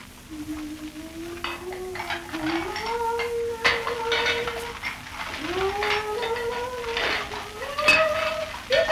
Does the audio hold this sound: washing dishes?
yes